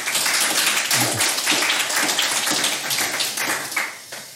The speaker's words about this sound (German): Und natürlich, wie für alle Gäste hier, einen donnernden Applaus. Bitte schön.